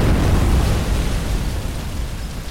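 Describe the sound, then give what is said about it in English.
Deep, rumbling explosions roll together into a continuous heavy roar, loud and sustained with booming low-end bursts throughout and no voices present. “And you remember seeing the explosions.”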